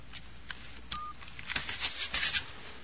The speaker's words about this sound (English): Taking a slip of paper from his pocket, Charlie dials a number.